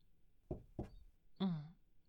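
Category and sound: household object, knocking on a door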